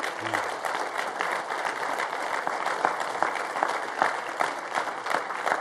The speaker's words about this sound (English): We're clapping for you, not that you're leaving, okay? Let's just make that clear.